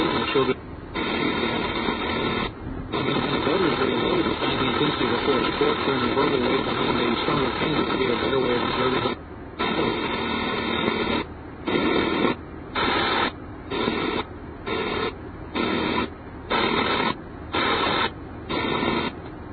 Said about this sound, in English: I had a boombox with me because I had no radio in the car, and I was tuning to find radio stations and finding absolutely nothing, and that went on for a good 10 minutes. So we just have a few seconds of that.